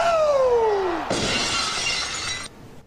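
A descending whistle-like tone slides down, then a loud, close burst of shattering glass crashes in and sustains for over a second before cutting off abruptly. No voices.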